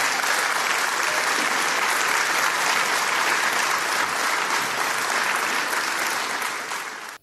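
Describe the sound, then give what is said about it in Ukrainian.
Sustained, dense applause from a large crowd at a business forum in Białystok, Poland, where Donald Tusk spoke, many hands clapping at once in a steady roar for several seconds before it cuts off abruptly at the end. “Адкуль такія аплодысменты масавыя?”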